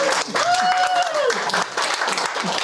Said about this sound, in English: Round of applause